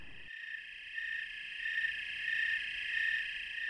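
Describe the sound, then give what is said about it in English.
A steady chorus of crickets or katydids trills continuously at a high pitch, many insects blending into one dense, unbroken drone with no voices present. “what you're listening to, these things have been out here in the world doing this for millions of years, doing a darn good job of it.”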